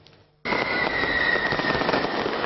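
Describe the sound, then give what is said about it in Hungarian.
After a brief quiet moment, fireworks burst in abruptly and keep going as a loud, dense, continuous crackling barrage with a faint high whistle running through it. New Year's fireworks in Csíkszereda, Transylvania, with people gathered on the town's main square. “Barangzúgás, tűzijáték, utcai pesgőzés. Ilyen hangulatban köszöntött Csíkszeredára az új esztendő.”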